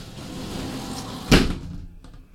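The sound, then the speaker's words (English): A sliding bathtub door rumbles and rattles along its track as it slides from left to right, then bumps to a stop with a sharp knock, followed by a few faint clicks as the noise dies away; the doors were cut to fit tracks not made for them and fit loosely. “And of course we have the doors on the bathtub. You can slide it from left to right.”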